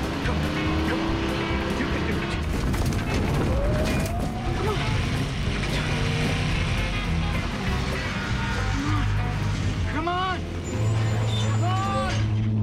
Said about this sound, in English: He approaches a steep, bending slope. Whoa. The RV just about negotiates the scree-covered ground.